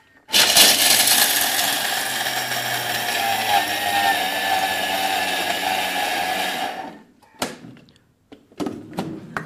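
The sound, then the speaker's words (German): A Thermomix food processor blends cashews at high speed for about seven seconds to pulverize them, a loud, steady whirring roar that stops abruptly, followed by a few clunks and knocks of the machine. “So, dann macht man den Thermomix zu, drückt auf den Knopf bzw. dreht hier und wartet. Es wird jetzt etwas laut, ja?”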